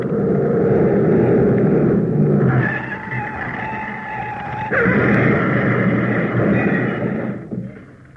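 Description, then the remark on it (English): A stolen large green Daimler speeds south with a loud, steady engine roar and rising whine, surging louder about halfway through before the noise breaks off and dies away at the end. No one speaks. “Large green Daimler speeding south.”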